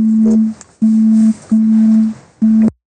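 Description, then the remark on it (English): A steady electronic phone tone for an incoming call beeps in four loud, even pulses with short gaps between them, clear, with no talking over it. “Got another phone call.”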